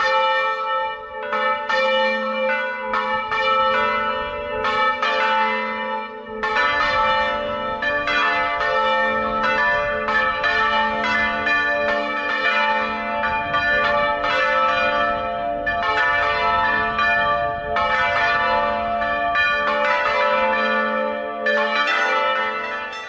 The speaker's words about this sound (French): Allez, on écoute une dernière fois, c'est pas du carillon, c'est les fameuses cloches en volée tournante de l'église Saint-Rémy de Lagarde dans le Lauragais.